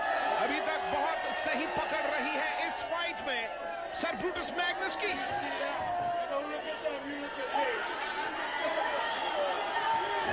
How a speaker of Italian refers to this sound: Pugni, un po' di ground and pound da parte di Magnus.